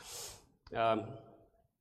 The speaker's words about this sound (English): Let me blow my nose and make a comment. That's a first. Okay. It's a big pet peeve of mine to blow my nose in public, but I got to do it.